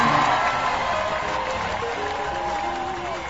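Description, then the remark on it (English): The studio audience of the live call-in show Lawyers Who Needs Them applauds steadily, a dense wash of clapping with scattered cheers and crowd voices mixed in, holding at an even, fairly loud level before easing slightly at the end. “Wow, the crowd is back to full form today.”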